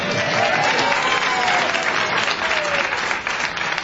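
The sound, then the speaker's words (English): The live audience of a Planetary Radio show hosted at radio station KPCC applauds steadily, a dense wash of clapping hands with a few faint cheers or whoops mixed in, holding at an even loudness for several seconds without talk. “Let's hear it for flagrant nepotism.”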